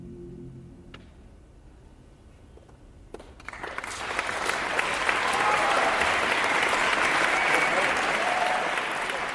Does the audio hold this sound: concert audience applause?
yes